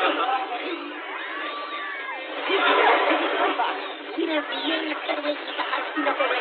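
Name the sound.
panicking crowd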